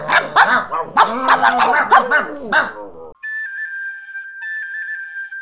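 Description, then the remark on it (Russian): Several dogs bark and yelp excitedly in a dense, overlapping burst, then cut off abruptly as a steady high-pitched electronic melody, like a ringtone, plays on its own. “Собаки ухватили за хвост лису и вытащили ее из норы.”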